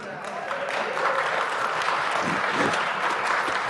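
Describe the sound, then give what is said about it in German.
Steady audience applause, a dense wash of many hands clapping at a fairly even level throughout, without any voices standing out. “Ja, doch, aber kurz, ich hätte das ruhig klatschen können.”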